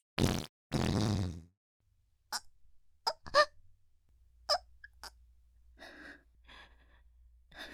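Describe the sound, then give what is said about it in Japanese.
A loud, hot fart: a brief blast followed by a longer buzzing, flapping release, then near quiet with a few small breaths and clicks. “おなら熱っ。指やけどしちゃうのかと思った。”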